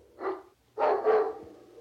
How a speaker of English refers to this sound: A dog was barking real mean in apartment 9.